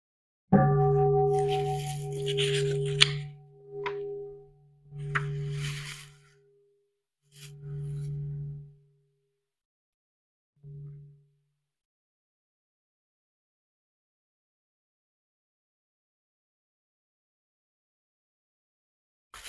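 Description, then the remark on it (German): A deep bell is struck four times, each stroke ringing with a low, humming tone that fades away, the later strikes quieter and shorter, followed by silence. “Ja, dann hören wir noch eine Glocke.”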